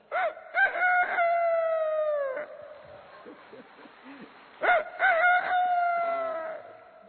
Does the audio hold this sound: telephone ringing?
no